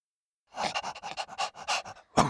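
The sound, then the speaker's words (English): A large dog in a garden pants in quick, rhythmic, breathy huffs after a brief silence, ending with one louder, harsher breath. No one speaks. “Eek! The big dog is here! Close the windows.”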